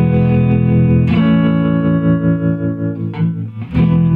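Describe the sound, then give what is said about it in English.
A Stratocaster electric guitar strums three sustained chords with its built-in vibrato wavering and a wash of reverb, each chord ringing out loud before the next is struck. “It's just built-in vibrato and the some reverb, Stratocaster. Three chords.”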